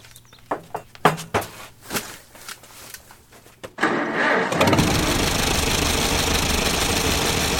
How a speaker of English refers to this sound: It sounds just like an old tractor should, even when restored.